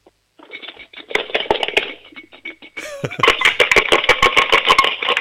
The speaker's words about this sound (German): Hast du eine Sparbüchse? Ja. Dann hol mal die Sparbüchse und schüttel sie mal. Ich möchte alle Münzen da drinnen hören.